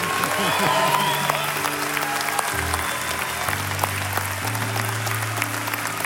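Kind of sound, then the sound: crowd, audience clapping and applause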